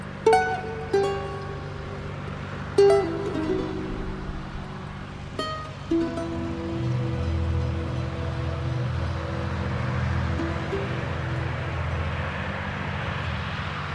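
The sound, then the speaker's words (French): A huge agricultural machine working among the rows of a vineyard in Listrac-Médoc drones steadily, a deep continuous engine rumble with a few sharp metallic clanks early on, loud enough to resemble a plane taking off. “Eh bien, c'est tout simplement un engin agricole au milieu des rangs de vignes ici à Listrac-Médoc.”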